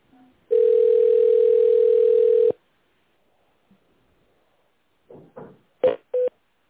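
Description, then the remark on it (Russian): On a phone call to the company Dorpiterstroy, a steady, loud telephone tone holds for about two seconds, then after a pause a quick series of four short keypad tones beeps out as an extension number is dialed in tone mode after an automated greeting. “Пожалуйста, наберите в тоновом режиме добавочный номер или дождитесь ответа оператора.”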